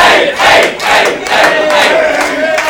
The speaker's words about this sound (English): But Aid doesn't want to come out, so perhaps, much like a kid's party, if everyone shouts for Aid, maybe he'll come out and see us, children.